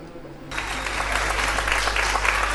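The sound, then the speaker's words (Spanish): Spontaneous applause bursts in after a brief quiet moment, a dense, steady patter of many hands clapping that holds at an even loudness for a couple of seconds. “Si hay algo que me emociona son los aplausos espontáneos.”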